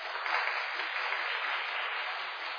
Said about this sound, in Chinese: 哈利路亚！用掌声献给耶稣。阿门，阿门，阿门。